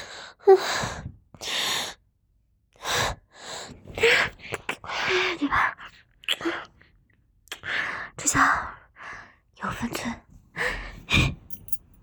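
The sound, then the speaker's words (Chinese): A run of small, breathy sneezes, repeated in short bursts with quick gasps and soft exhales between them, fairly quiet overall. “小打喷嚏，是不是我老公在背地里骂我了？”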